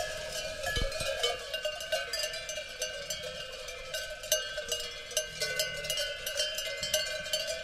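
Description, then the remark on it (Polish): Bells on grazing sheep, including one on a ram, clank and jingle continuously in an irregular, overlapping jumble, bright and metallic with a steady ringing tone, with no voices. “Ale dzwonił.”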